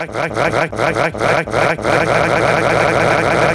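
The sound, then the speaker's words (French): A new Hurlimann tractor's engine is started: it turns over with a rapid series of loud, chugging bursts, then settles into a steady, heavy drone. No one speaks. “Eh bien, dans la grande tradition appelée Jean-Michel Hurlimann, on a pu construire un nouveau tracteur de la marque et on a essayé de le mettre en marche.”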